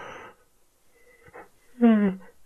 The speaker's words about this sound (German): Seht, ich habe erstmal gegähnt oder hört es, ich habe erstmal gegähnt und dann am Ende, wenn das Gähnen vorbei ist, einfach so ein Njam, Njam, Njam, Njam ausplätschern lassen.